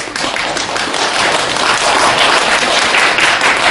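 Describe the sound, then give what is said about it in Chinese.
An audience at a small-theater xiangsheng (crosstalk comedy) performance bursts into steady, loud applause, a dense wash of many hands clapping at once that holds its strength for the whole few seconds without any voices on top. “今天哇，掌声四起，我们两个人哇，掌声，给您说一段相声， 这才太不像话了， 生活说的不好，说的不好都鼓掌。”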